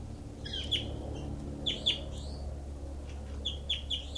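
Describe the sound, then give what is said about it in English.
Bright, high-pitched bird calls from a bird labelled 06, recorded at its cell, come in short bursts of two or three chirps, with pauses between, over a steady low hum. No one speaks. “Stop. Recording is bird 06.”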